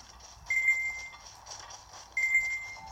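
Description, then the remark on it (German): Two steady, high-pitched electronic beeps from a sensor sound about a second and a half apart, each lasting roughly half a second, over a faint background hum. “Es reicht mit dem Piepen.”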